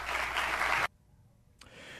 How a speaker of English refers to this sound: That applause wasn't as loud as I would have liked it to be.